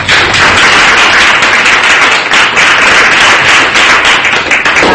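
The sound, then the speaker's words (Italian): An audience at the Centro Studi Campostrini in Verona claps steadily for five seconds to welcome a university professor giving a talk, a dense, loud wash of many hands with no single claps standing out and no voices on top. “Per cui le cedo subito la parola, la accogliamo con un applauso e poi il dibattito.”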